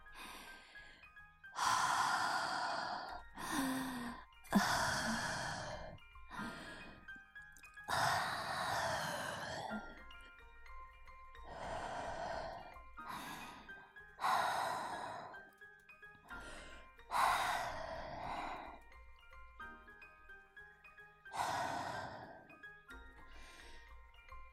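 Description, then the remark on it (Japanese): A series of breathy exhalations blown out through the mouth toward the listener just after a burp, about a dozen soft bursts separated by short pauses, some with a faint voiced, sighing edge. “息かけちゃう。”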